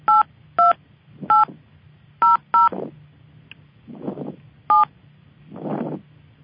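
Six short telephone keypad beeps tapped out at an uneven pace as a subscriber PIN is entered to join a conference call, each a steady two-tone chirp, over a low hum with soft rushing noises between presses.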